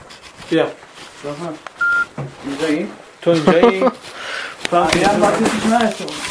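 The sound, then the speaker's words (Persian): People talk continuously in a studio while a single short phone keypad dialing tone beeps once, clear, in a brief pause between voices, as a mobile number is dialed. “یکاش خط ثابتشو میگرفتی؟ نه خط موبایلشو بخش.”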